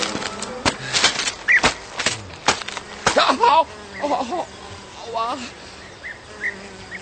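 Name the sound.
fly buzzing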